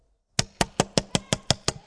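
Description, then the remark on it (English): Eight hard, rapid, loud knocks strike a door in a steady, evenly spaced rhythm, with no voices around them. “You smite it until what? The door shakes.”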